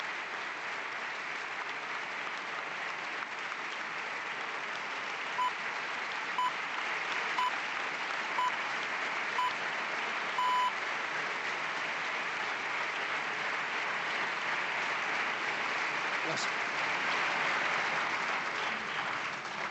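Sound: applause in parliament chamber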